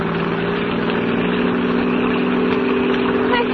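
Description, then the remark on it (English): A car engine hums steadily and loudly throughout, a constant mid-pitched drone of a vehicle driving along, with no voices. “Please, let me out of this car.”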